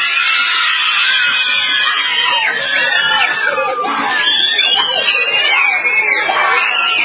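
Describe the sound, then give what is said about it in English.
A crowd of elementary school children cheering and screaming with joy at the news that they no longer have to wear masks, a dense, continuous wash of high-pitched shrieks and shouts that stays loud and excited throughout. “They were cheering and extremely happy when they got the news.”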